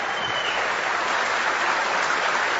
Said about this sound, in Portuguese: Uma salada de frutas, ou melhor, uma coletânea de estilos, com um setlist especial oferecido ao público, que ao final de cada canção, aplaudia.